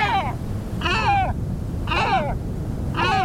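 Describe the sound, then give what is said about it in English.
A great black-backed gull gives four hoarse, harmonic calls, each about half a second long and spaced roughly a second apart, over a steady low rumble of background noise. “And though their populations recovered with help from environmental protections, great black-backed gulls are in decline once again.”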